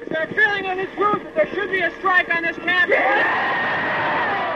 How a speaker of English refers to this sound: The sound of demonstrations and people's neck veins sticking out and people screaming at each other from across the ideological divide.